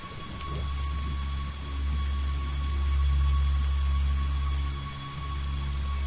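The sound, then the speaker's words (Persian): Steady rain hisses throughout while deep, rolling thunder rumbles, swelling and easing in long low waves. No one speaks. “زیر باران دوشنبه بعد از ظهر اتفاقی مقابلم رخ داد”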